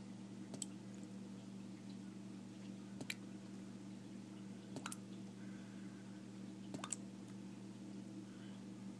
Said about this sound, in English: I actually had to call my maintenance department today because we've got a problem. You can actually hear water from upstairs. And it's dripping into this container here.